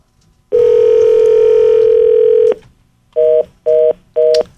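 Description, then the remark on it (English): A telephone busy signal heard when calling someone: a line tone holds steady for about two seconds, then breaks into three short, evenly spaced beeps, loud with no voices. “We got a busy signal.”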